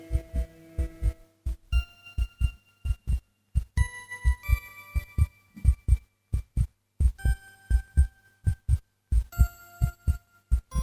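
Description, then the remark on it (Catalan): A steady, deep heartbeat thumps in close paired beats, loud and regular throughout, with faint sustained chiming tones ringing above it and no voices. “És el batec del cor.”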